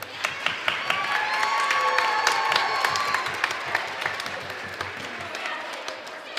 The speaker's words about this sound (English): Big round of applause for our students here.